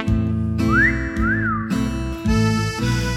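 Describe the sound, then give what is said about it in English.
A whistled blues melody slides up and down in smooth, swooping notes over a steady, bluesy instrumental backing, clear, with no one speaking. “Slipping into slinky lycra, tying up their shoes, standing on the starting line, whistling some blues.”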